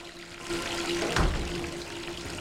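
Steaming water runs steadily into a luxurious freestanding bathtub, a continuous rushing hiss with a faint low hum beneath and one brief, louder gurgle midway. No voices.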